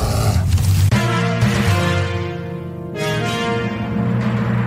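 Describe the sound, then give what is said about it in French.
A loud, deep polar bear roar rumbles over sustained musical tones of a short old radio jingle that is no longer used, swelling in several bursts across the few seconds with no talking. “la première affaire qu'on a faite, c'est un jingle qui n'existe plus, là, le réveil soir”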